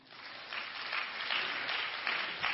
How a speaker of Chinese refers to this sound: 我们给三个掌声好吗？